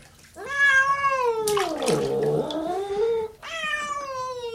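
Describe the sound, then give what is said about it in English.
A cat being bathed in water lets out a long, loud, wavering yowl that dips and rises, followed by another drawn-out cry, with faint splashing water in the background. “Well, the cats don't like to be washed. They scratch, you know, and they bite if they have a chance.”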